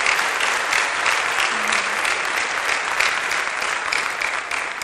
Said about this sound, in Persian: من هر دفعه میام بالا یه ذره اینجوری استرس دارم. یه تشویق میکنین لطفا.